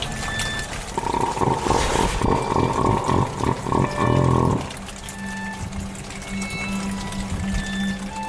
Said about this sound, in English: So I'm struggling to sleep because there is an elephant seal outside the window making the most horrendous noise.